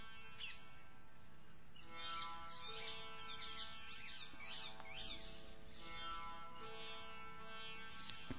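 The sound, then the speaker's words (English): Several birds chirp and sing together in an overlapping chorus of quick, high tweets and calls over a steady faint background hum. “Is there only one type of bird, or are there different birds' voices?”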